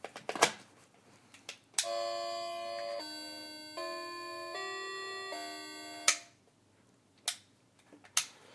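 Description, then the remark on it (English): A creepy-sounding clock plays a slow tune of five sustained, buzzy notes stepping up and down in pitch, framed by sharp mechanical clicks before and after. No one speaks. “Ooh, creepy sounding clock.”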